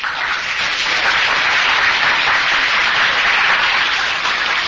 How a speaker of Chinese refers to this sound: 我们今天很感谢大家来鼓掌欢迎